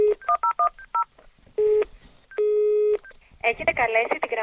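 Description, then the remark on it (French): A quick run of telephone keypad beeps, then two steady electronic telephone rings, clear, before a voice starts talking at the end. The phone is in the offices of the NGO Transparency International in central Athens, Greece. “Le téléphone n'arrête pas de sonner.”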